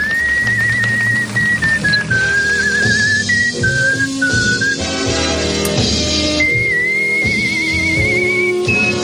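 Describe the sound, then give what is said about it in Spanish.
A man who made his living from whistling whistles a melodic tune with steady vibrato, sustained notes rising and falling, loud and up front over full instrumental accompaniment. “De todas formas, a un chico que le dijeron, no vales para nada, solamente sabes silbar, consiguió vivir del silbido.”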